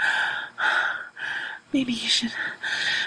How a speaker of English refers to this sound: Tear open this dress. It's kind of tight and I'm breathing really heavy.